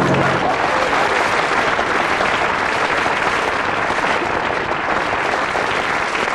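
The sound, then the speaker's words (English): A steady wash of applause from an audience, many hands clapping at once in a dense, even roar that holds at a constant loud level for several seconds. “The audience, having reached the stage where they'll clap anything, we'll see how they respond to you.”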